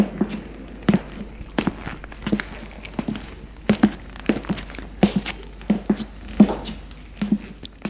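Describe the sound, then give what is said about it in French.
Footsteps of a man going down the stairs of an apartment building in a steady, brisk rhythm, each step a distinct thud, moderately loud, with no voices. “Patron inquiet descend les étages.”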